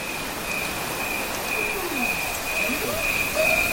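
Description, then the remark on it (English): A steady, high-pitched cricket trill runs throughout, pulsing evenly in time with a guided breath over a bed of soft white noise, with low gliding musical tones, a fifth for the in-breath and the home note for the out-breath, drifting in and out beneath it. “Even the crickets are in time with the actual breath.”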